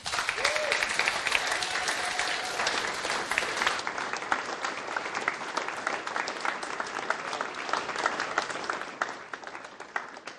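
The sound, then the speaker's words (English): A large audience applauds steadily for about ten seconds, a dense, sustained wash of many hands clapping with no voices rising above it. “Can we get one more round of applause”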